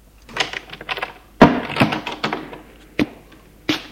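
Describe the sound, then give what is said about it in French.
A woman closes a bedroom door upstairs: it swings and shuts with a solid thud amid rattling handle and latch noises, followed by a couple of sharper clicks. “Elle ferme la porte.”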